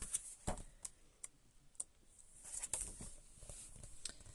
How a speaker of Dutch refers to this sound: Ik blader heel eventjes naar bladzijde 178 om te kijken wat daarbij staat.